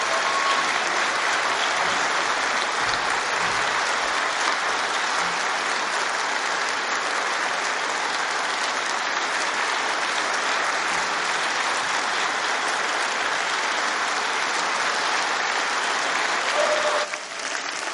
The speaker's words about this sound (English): Thank you very much. We know who deserves that hand clap, don't we?